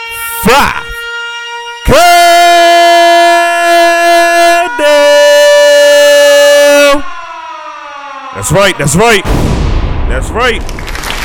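A loud, blaring siren sound effect introducing a top five countdown holds a steady wailing tone for several seconds, then slides downward, framed by short sweeping electronic bursts at the start and end.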